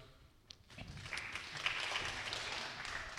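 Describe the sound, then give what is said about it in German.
A roomful of people applauds as candidates are introduced: dense, steady clapping swells in after a brief pause and continues evenly to the end, without any talking. “Und genau, ihr dürft ruhig klatschen, also das Klatschen oder das Klopfen ist nicht verboten hier.”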